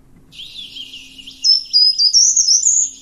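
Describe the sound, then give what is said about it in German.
A songbird sings a clear, high, melodic phrase that starts on a higher first note and then descends, quieter at first, then louder and brighter in its second half, with a faint low hum underneath and no voices. “Genau, der erste Ton ist höher, es geht dann so runter.”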